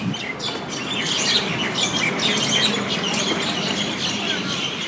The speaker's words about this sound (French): Voilà, voilà les oiseaux qu'on entend sous un arbre, un seul arbre, tous ces oiseaux sous un seul arbre, à la sortie du City Hall de Durban.